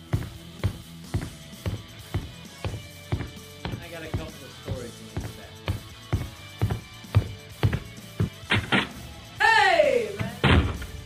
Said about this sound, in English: I got a couple things, but let me get the door first.